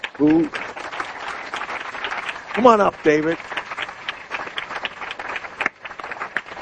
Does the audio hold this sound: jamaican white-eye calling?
no